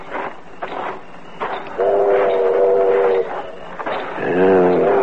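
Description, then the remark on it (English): A train pulls in amid rhythmic rumbling and hissing bursts, its whistle sounding two long, steady, reedy blasts, the second slightly higher and louder, with no talking. “The train's pulling in.”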